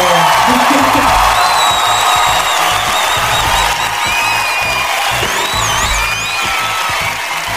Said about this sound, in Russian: И крики «Ура!». Ура!